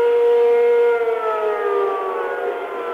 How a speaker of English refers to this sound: Air raid sirens are sounding again here.